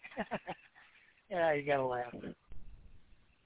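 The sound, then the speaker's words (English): A female dog on a porch whimpers as she pulls toward the door to go back inside: a few short breathy yips, then a longer wavering, high-pitched whine lasting about a second, followed by quiet shuffling. “So, all right, the dog is forcing me to go back in.”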